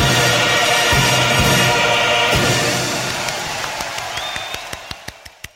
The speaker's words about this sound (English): Oh, that's embarrassing. Everyone stopped clapping and I was just standing there clapping.